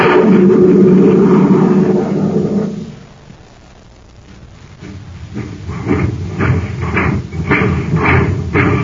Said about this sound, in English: Do you hear that, gang? That's the Terra Express train trying to get up speed on ordinary fuel. Not very speedy, is it?